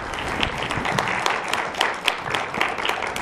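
A crowd claps steadily, a dense patter of many hands blending into continuous applause at moderate volume, with sharper individual claps popping out now and then. No one speaks over it.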